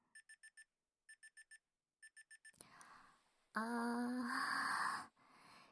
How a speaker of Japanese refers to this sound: 標準パックが終わりだよーっていうタイマーですね、これ。そういえばまだその時間だったの忘れてました。